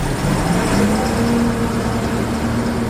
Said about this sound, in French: 150 blindés et camions, 700 militaires se sont rassemblés pour lancer l'opération Bourgou dans le Gourma. Au petit matin, le convoi s'engage sur la route nationale 16.